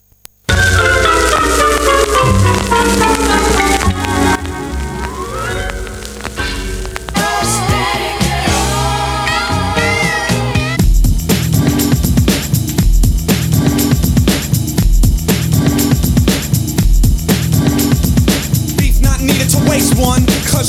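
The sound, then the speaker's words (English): A hip-hop track from an album released in 1991 plays loudly, opening with layered melodic samples and sliding tones before a steady, punchy drum beat with heavy bass kicks in for the second half. No one talks over it. “L'album s'appelle …, il est sorti en 91, c'est parti.”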